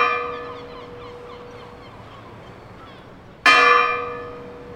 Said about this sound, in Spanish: Se buscaba la comodidad de los niños y vecinos, y que el sonido de las campanas se escuchase por todo el pueblo.